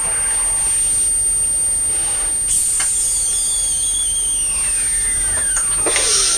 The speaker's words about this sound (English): Juice is making a funny noise when you're drinking it, isn't it?